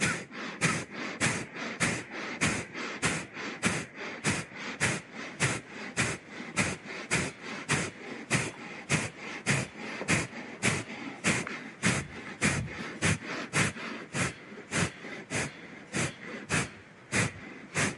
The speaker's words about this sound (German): Und nochmals Kapalabhati.